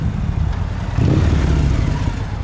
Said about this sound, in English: On a recent Tuesday evening, the parking lot of a pizza restaurant in Sunnyvale is filled with gleaming rows of parked motorcycles, with more arriving every few minutes.